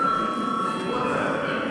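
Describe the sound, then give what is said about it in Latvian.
A session break bell rings steadily to call a break for a session of deputies, a continuous, bright electric tone that holds at an even loudness without pausing for the whole moment, with no talk over it. “Kolēģi, ir pienācis laiks pārtraukumam. Lūdzu zvanu.”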